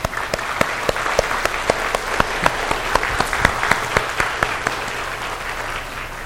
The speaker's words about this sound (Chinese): 我们拍手欢迎他哈。